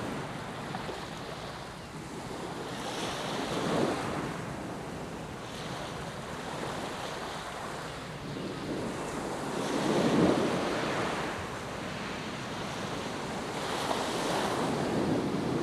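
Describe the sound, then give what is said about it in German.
Ocean waves wash onto a beach in slow, regular surges, each swell rising and fading every few seconds over a steady hiss of surf, with a light wind buffeting the microphone and no voices. “Der rhythmische Schlag der Wellen an den Strand lassen meine Atmung und mein Herz zur Ruhe kommen.”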